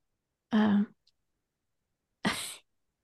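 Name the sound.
big yawn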